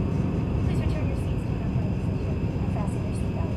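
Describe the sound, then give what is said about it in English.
A steady, loud airplane cabin engine drone fills the space, a dense low roar that holds constant throughout without breaks or changes in intensity, aboard an aeroplane in the early 1960s as it is about to start its descent. “The early 60s, Brian sits looking distressed aboard an aeroplane.”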